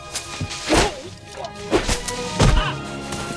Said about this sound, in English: He pushes through the fur coats. Lucy! Who lives here, Liberace? The pine branches slap him.